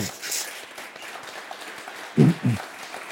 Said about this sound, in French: Applaudissements